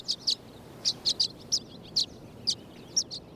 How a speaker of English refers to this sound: But now, they gather on electrical wires by the dozens in the western United States, chattering away as part of their pre-migration networking.